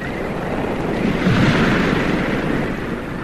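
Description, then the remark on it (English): Ocean waves wash in a steady, broad roar, swelling slightly toward the middle before easing back, with a constant rushing hiss and low rumble and no voices. “The waves, her sighs and tears of solitude.”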